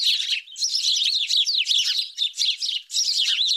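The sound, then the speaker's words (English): A busy, continuous stream of high, rapid chirps from house sparrows, loud, with brief pauses between bursts of overlapping twittering calls. “House sparrows now live in cities on nearly every continent, where they get hate for being urban pests.”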